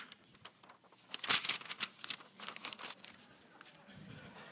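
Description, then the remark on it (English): Crisp crinkling of paper being scrunched up around chewing gum, a burst of loud crackles in the middle followed by softer intermittent rustles, with no one talking. “I did not dispose of my gum before I came up here. This paper looks good.”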